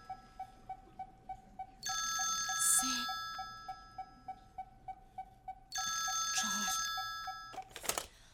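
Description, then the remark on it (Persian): A telephone rings at a special agent's office in two long bursts of bright, steady tone, while a quick, regular ticking pulses underneath throughout. A sharp clatter at the end sounds like the receiver being picked up. “دفتر مأمور ویژه کرافورد. بله؟ با کی کار داشتین؟”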